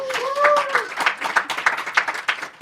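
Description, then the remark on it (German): A live audience at the Media Lab Innovation Festival 2025 at the HFF in Munich bursts into applause, dense overlapping clapping for a couple of seconds, with a brief whoop or cheer rising above the hands at the start. “Vielleicht mal ein kurzes Zeichen, dass wir ein Publikum haben.”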